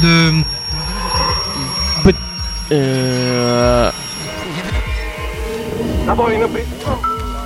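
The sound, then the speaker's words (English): Street traffic outside, with car sounds picked up by a microphone too close to it: a steady low rumble, broken by a loud, sustained horn-like blare lasting about a second, then busier mixed vehicle noise toward the end. “traffic extravaganza going on outside. The mic got too close to the action.”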